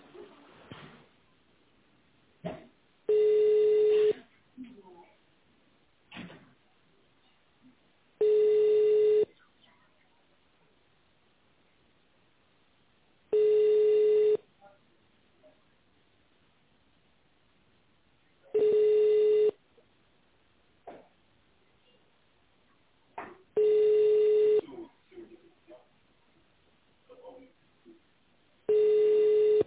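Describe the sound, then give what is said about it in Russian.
A telephone ringback tone heard while calling the company Biotekhnologii Tyumen and waiting for a secretary to answer. It repeats seven times, each steady mid-pitched burst lasting about a second with roughly four-second gaps, and faint line noise and soft clicks fill the pauses. “Наберите внутренний номер сотрудника или дождитесь ответа секретаря.”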